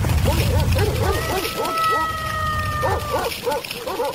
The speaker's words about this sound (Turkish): Kapı birden açılmış. Çok sayıda iri köpek dışarıya fırlamış ve kurda saldırmış.